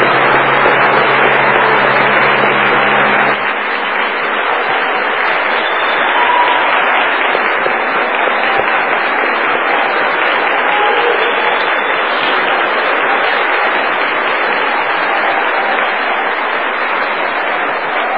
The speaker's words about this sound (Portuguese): Então eles merecem uma grande salva de palmas.